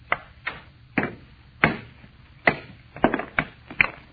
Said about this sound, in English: All I'm going to do is try and break it along this fissure. If you had a hammer and a drill. I wonder if the stone break. Almost solid metal. I'll try.